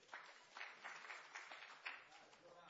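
A small group applauds for a few seconds, a steady, fairly soft patter of clapping that swells slightly in a few bursts before tapering off.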